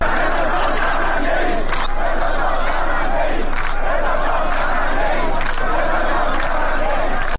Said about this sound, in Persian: بر اساس ویدیوهای انتشار یافته در شبکه‌های اجتماعی، معترضان در شهرستان ایذه در شرق خوزستان شعار مرگ بر خامنه‌ای سر دادند. همچنین در این تظاهرات شعار رضا شاه شرمنده ایم نیز شنیده شد.